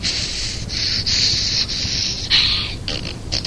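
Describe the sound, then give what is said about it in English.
A caller on a phone line imitates farting with their mouth as a fart routine: a rapid string of raspy, sputtering blasts with a rough, hissy edge, each burst lasting under a second, fairly loud and with no other talking. “I'm always interested in hearing another fart routine. Could you fart for us?”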